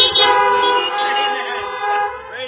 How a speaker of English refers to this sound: Welcome to our 2020 Easter service, Easter drive-in service. This is the only time I'm going to ask this during this service, but he is risen. If he is risen indeed, give me a quick beep on your horn.